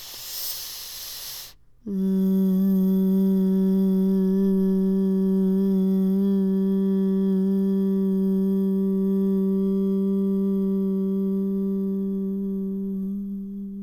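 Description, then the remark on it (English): A sharp breathy rush of air gives way to a long, steady chanted vocal tone, low-pitched and richly resonant, held at an even loudness for about twelve seconds before slowly easing; a releasing tone chanted during a guided practice with an optional child's pose. “And this is a releasing tone that releases whatever is blocking us from this inner vision, this insight, this inner knowing.”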